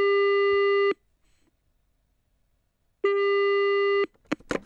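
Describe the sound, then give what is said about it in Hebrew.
Two steady, buzzy telephone ringback tones from a phone call placed to someone, each lasting about a second and separated by a silent gap, followed by a voice beginning to speak. “בוא נתקשר ונראה.”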